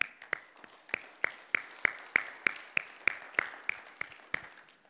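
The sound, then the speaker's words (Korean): An audience claps in steady unison to welcome young adults who have come, about sixteen sharp, bright claps at an even brisk rhythm over five seconds, with no talking. “우리 청년분들 오셨는데 박수 한번 치겠습니다.”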